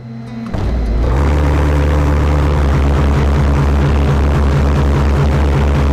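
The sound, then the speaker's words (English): Pulse jet engines mounted on a boat roar to life after a brief lower start, settling into a loud, steady, throbbing drone with a harsh buzzing pulse that continues unbroken to the end. “And you'll notice I don't have a heat shield protecting me or the gas bottles from the pulse jets.”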